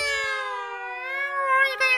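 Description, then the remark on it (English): A single drawn-out, cat-like yowl, loud, holding a harsh, nasal pitch that sags slightly and wavers before swelling again near the end, with no talking; a message in cat speak being broadcast by radio. “That night, he fluttered into the radio room and broadcast a message in cat speak. It was the most appalling din, like chalk on blackboard or the sound of a cat's chorus.”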